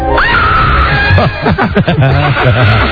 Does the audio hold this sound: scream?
yes